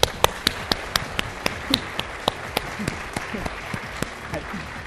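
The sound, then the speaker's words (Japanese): An audience claps steadily for several seconds, many hands striking in an irregular, crackling patter at moderate loudness, with sharper individual claps standing out, welcoming a speaker from Hitachi Industry & Control Solutions onto the stage. “はい、拍手ありがとうございます。”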